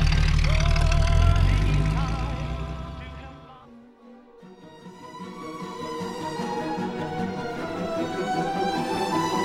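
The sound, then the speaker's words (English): A car engine rumbles loudly, then abruptly cuts out and stalls about halfway through, leaving a brief lull before other tonal sounds rise in its place. “Oh no, I've stalled the car!”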